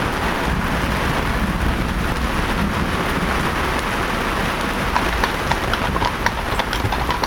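Heavy thunderstorm rain pours down steadily and loudly in the Czech Republic, a dense continuous hiss with scattered sharp drops pattering; no one speaks.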